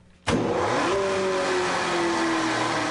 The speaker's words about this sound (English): Yeah, this is a 10-horse Fitz mill. We call it the bad boy. It's fairly simple technology. It's just a series of hammers. It's spinning at 2400 RPM.